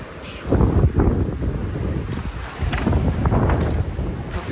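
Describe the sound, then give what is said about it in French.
Strong tailwind of about 70 km/h roars and buffets directly against a microphone while cycling on flat ground without pedaling. A loud, continuous low rumble with gusty surges that never lets up, and no voices are heard. “Le vent aujourd'hui, c'est le plus fort que j'ai jamais eu depuis le début du voyage.”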